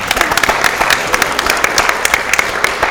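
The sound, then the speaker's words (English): Steady applause from an audience, a dense run of many overlapping hand claps with sharp crisp peaks, holding at a fairly loud, even level throughout with no voices standing out. “Yeah, I'm going to clap for him.”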